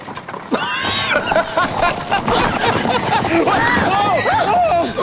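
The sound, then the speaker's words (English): Hooves of runaway horses clatter in a loud, hurried gallop, mixed with frantic overlapping shouts and cries that rise and fall throughout. “Get away, horses! Quick, way out of the way! Watch out! Whoa, whoa!”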